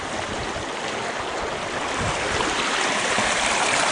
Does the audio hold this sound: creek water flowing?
yes